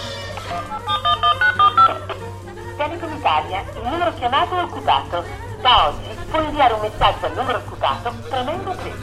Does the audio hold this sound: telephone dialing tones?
yes